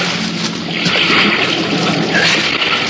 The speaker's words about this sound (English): The impact of the landing threw me against the wall of the fuselage, but a moment later, the sound of water rushing in through the loading doors brought me around fast.